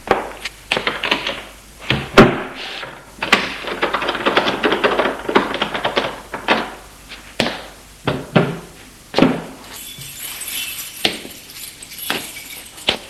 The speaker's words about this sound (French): Il referme sa porte minutieusement.